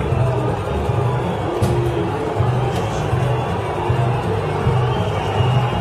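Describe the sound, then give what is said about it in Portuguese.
A large football stadium crowd roars steadily and loudly, with a rhythmic swell of chanting voices beneath the noise, fans protesting as Neymar walks toward the dressing room. “Ele vai caminhando em direção ao vestiário, começa, tem esse sobe som ainda da torcida, muitos protestos”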